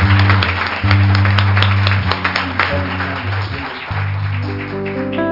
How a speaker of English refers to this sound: Why don't you just give the Lord a great old big hand clap of praise?